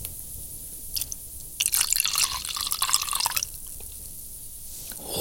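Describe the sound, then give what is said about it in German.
Vodka is poured onto mushy baby porridge in a steady, gurgling trickle lasting a couple of seconds, preceded by a faint splash and followed by quiet room tone; no one speaks. “Ich gieße jetzt den Wodka auf den Babybrei.”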